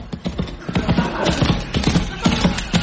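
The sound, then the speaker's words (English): Horse hooves clip-clop in a steady, rhythmic gait, moderately loud, as a horseman rides past Masterson Hall in England, with a faint background hiss and no talking. “And as she looked, a horseman came by.”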